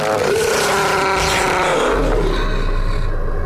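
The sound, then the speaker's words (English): Sheep shearing clippers drone loudly and steadily, a harsh motorized buzz with stacked harmonics whose pitch wavers and dips slightly, over a rumbling low undertone for the whole few seconds. “What's that noise? Somebody's shearing.”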